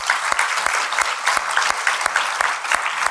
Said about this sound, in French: Est-ce qu'on peut applaudir notre Dieu pour ça?